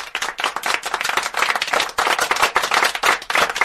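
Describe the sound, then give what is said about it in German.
A single New Year's Eve firework rocket with a long-lasting effect: a dense, continuous stream of sharp, rapid crackling pops and sizzles at steady loudness for several seconds, with no voices. “Eine einzelne Silvesterrakete mit Langzeiteffekt. Naja, das hörte sich gut und nachhaltig an.”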